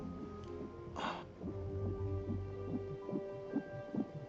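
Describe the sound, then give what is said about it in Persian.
A fast, steady fetal heartbeat of a plum-sized baby in the womb pulses softly through a monitor, blurred whooshing beats repeating quickly over a low electronic hum, with no one speaking. “ضربان قلب میشنوم.”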